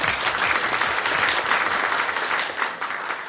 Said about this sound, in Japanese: 盛大な拍手でお迎えください。